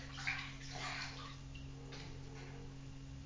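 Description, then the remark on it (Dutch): Soft, irregular splashes of warm water in a bathtub as a young child bathes, strongest at first and then trailing off into quieter sloshing, with a low steady hum in the background. “Drink maar niet van het water uit het bad.”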